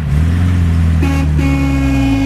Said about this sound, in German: Also das Hupi gefällt mir fast besser als das schnelle Auto. Wollt ihr nochmal hören? Vielleicht noch grad noch einmal.